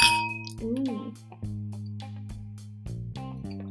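A single bright clink of wine glasses of Moscato touching in a toast opens the sound, ringing briefly before fading into a steady, low humming tone that carries on underneath.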